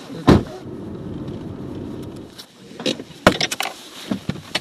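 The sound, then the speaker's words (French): A car door thuds shut as people get into a car to drive up the road to Mont-Soleil, then a steady low engine rumble runs for a couple of seconds before fading into a string of sharp clicks and rattles, with no one speaking. “Bon, on va prendre la voiture, puis on va monter un bout la route de Mont-Soleil.”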